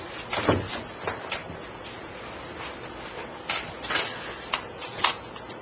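A clock ticks with sharp, dry clicks that come at a slightly uneven pace over a faint background hiss. No one speaks.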